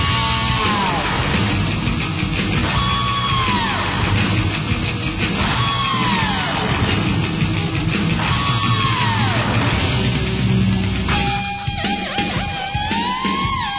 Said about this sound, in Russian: Я специально включил рок-обработку. Очень, очень в тему. Ну и фортепианный оригинал звучит ничуть не благостнее.